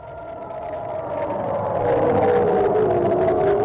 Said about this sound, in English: Sounds of sirens in Ashkelon, Israel overnight as Palestinian militants fired rockets toward Jerusalem, further escalating the most violent confrontation in months between Israel and militants in the Gaza Strip.